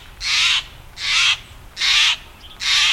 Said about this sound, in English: These daring blue dandies, the jay species most commonly seen in the Puget Sound lowlands, sound the alarm in evergreen and mixed conifer forests.